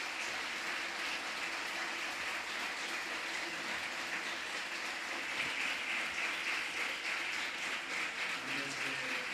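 A large audience applauds steadily for Penélope Cruz, a dense wash of many hands clapping at even strength for several seconds without letting up, with no one speaking over it.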